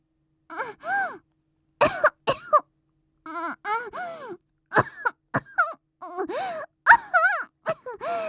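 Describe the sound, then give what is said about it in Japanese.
A woman coughs repeatedly in short bursts, mixed with groaning, moaning vocal sounds, fairly loud, with brief pauses between each fit; she is sick despite taking medicine and feels feverish with chills. “あれ、急に咳が。”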